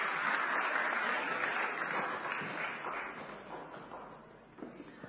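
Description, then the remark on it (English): An audience claps steadily, a dense wash of overlapping hand claps that stays loud for several seconds and then gradually thins and fades toward the end. “Give them all a clap.”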